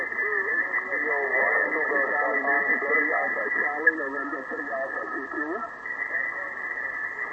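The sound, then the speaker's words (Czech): Three narrowband radio stations call over one another to an operator who does not respond, through a steady, loud interference whine that runs continuously across the whole transmission, with faint hiss underneath. “Teď je tam volají 3 stanice, jo, on ten operátor nereaguje a asi tam má nějaké rušení, jo, že to není”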